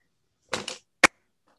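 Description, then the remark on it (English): A single sharp, loud hand clap, made to mark a peak for syncing and cutting a recording, rings out alone, preceded by a brief scuffing, rustling burst, with silence around them and no talking. “Do you clap so that you can find out where the signal is?”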